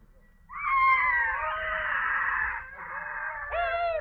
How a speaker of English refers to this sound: Listen to them scream. They're eagles, all right.